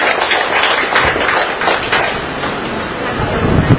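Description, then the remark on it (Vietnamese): A crowd claps steadily for several seconds to welcome a married couple invited up to the front, a dense, even patter of many hands with no talking over it. “Chúng ta một tràng pháo tay để gặp gỡ cặp vợ chồng này.”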